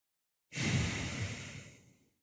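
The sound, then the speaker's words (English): A single deep belly breath drawn through the nose, airy, swelling quickly and then tapering off slowly over about a second and a half, with no talking around it. “And take a few deep breaths with your belly, breathing through the nose, in and out.”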